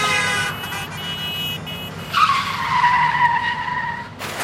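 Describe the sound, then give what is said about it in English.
A car skids with a long, loud tire squeal that rises sharply and holds steady, backed by a rumbling engine, before cutting off abruptly near the end, as the driver, blinded by another car's high beams, loses control and the car drifts out of the way. “shields her eyes, loses control of her car. It drifts out of the way.”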